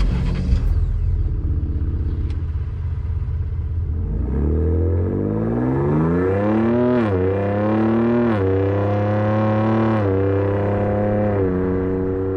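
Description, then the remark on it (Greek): The engine of a Ford Ranger Raptor pickup, the petrol model with a three-litre engine, heard from inside the truck, idles with a low rumble, then revs up in rising and falling pulls, harmonics sweeping upward several times, loud with no talking. “Είμαστε λοιπόν μέσα στο Ford Ranger Raptor.”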